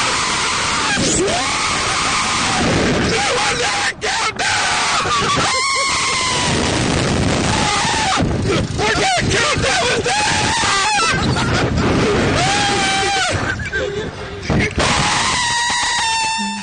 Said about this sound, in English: That wasn't a countdown. He's screaming.